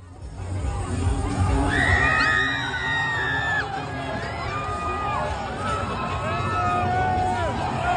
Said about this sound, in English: The woman screaming is like while they're flipping the car